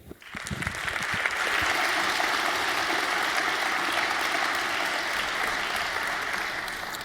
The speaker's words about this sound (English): So please give a warm round of applause to Repdeb, Moradek, and Kors.